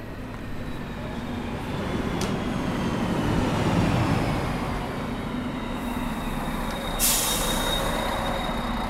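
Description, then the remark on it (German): A train rumbles steadily as it arrives, with low mechanical droning and faint wheel whine, then a sharp burst of air-brake hiss near the end. No one speaks. “Ich muss mich beeilen, sonst verpasse ich den Zug.”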